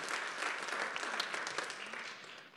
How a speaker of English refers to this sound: Come on, put your hands together. Give the Lord a hand clap of praise as you take your seat.